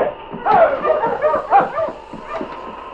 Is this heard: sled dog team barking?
yes